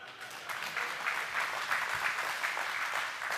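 Steady applause from an audience, a dense wash of many hands clapping at an even level for a few seconds with no voices standing out.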